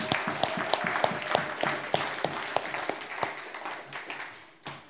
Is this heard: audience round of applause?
yes